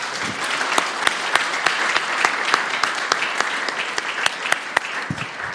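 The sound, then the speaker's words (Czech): A church audience applauds steadily once more after a prayer, a dense wash of many hands clapping at once with sharper individual claps standing out, holding an even loudness throughout with no voices. “Myslím, že ten potlesk může být ještě jednou.”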